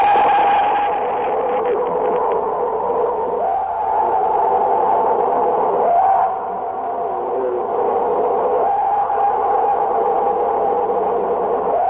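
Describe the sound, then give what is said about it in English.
A purported Bigfoot scream: loud, drawn-out wailing cries with a steady mid-pitched tone, repeating in long swells of a few seconds each, heard alone with no talking. “That first scream is said to be an authentic Bigfoot sound, Robert.”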